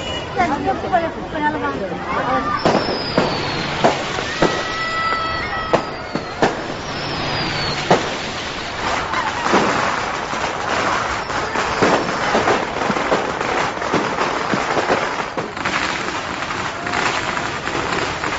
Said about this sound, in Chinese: 伴随着热热闹闹、绵延不断的鞭炮声，甜甜蜜蜜的喜糖更是婚礼上必不可少的。